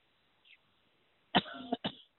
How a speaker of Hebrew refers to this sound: מה אני משתעלת ככה? תפסיקי לעשן